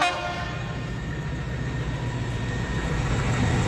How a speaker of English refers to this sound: It's going to be converted into a class 69, and that Maxman Rustum 16-cylinder engine will never scream again. At Stafford Station, I was able to hear its thrash one last time.